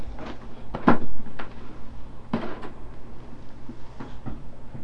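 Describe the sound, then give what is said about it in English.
A large closet door is opened, with a solid clunk followed by a second knock and some lighter rattling as it swings, over a low steady hum. “Can you open this door? The door right here. Big closet door. Can you open it?”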